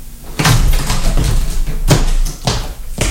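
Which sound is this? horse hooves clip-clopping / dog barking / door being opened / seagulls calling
door being opened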